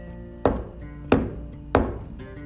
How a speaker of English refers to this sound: Maybe I'll just start banging on the tree and see what happens. And the unicorn walked over to the tree and did three knocks.